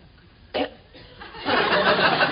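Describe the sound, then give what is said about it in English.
A man clears his throat: a short sharp catch, then a longer, louder raspy rumble that fills the end. No one speaks. “Just clearing my throat.”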